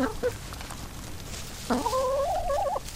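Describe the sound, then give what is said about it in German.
Chickens cluck in a village animal yard just behind a cemetery wall, kept with rabbits and pigeons: a short call at the start, then a longer, wavering drawn-out cluck near the end over steady outdoor background noise, with no voices. “Gleich hinter der Friedhofsmauer beginnt der Mesnerin ihr Tiergarten mit Stallhasen, Hühnern und Tauben.”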